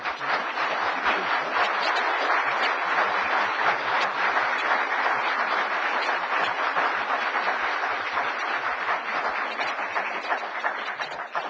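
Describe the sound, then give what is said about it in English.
An audience at a public meeting on a city of Sylvania income tax applauds two speakers who opposed the tax, steadily for about eleven seconds, a dense, even wash of many hands clapping at once, holding a constant loudness without fading and with no voices over it. “By your applause, I feel that these two speakers probably represented your position pretty well.”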